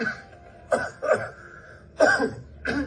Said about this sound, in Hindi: आप इस खांसी का इलाज क्यों नहीं कर लेते?